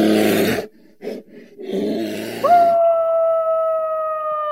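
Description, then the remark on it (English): A deep, rough growling roar in short bursts gives way to a single long, steady wolf howl that holds one clear pitch to the end, loud, with no voices; broadcast from hidden speakers in a small forest near Oxford, UK. “They used hidden speakers to broadcast the sounds of bears and wolves.”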